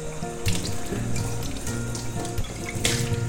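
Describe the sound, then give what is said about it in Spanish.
Water streams steadily from a tap into a sink, a continuous splashing hiss with a few brighter gushes and clinks as it hits dishes. No one speaks. “No fregues los platos con el grifo abierto.”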